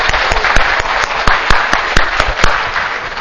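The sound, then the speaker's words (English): A crowd bursts into steady applause, a dense wash of clapping with sharper individual claps popping out in a loose rhythm, loud throughout. “So let's just give it a clap.”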